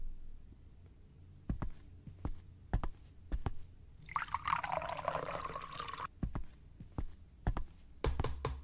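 Water is poured into a glass in a steady two-second stream, set among scattered sharp clicks and knocks of handling, fairly clear, with no talking.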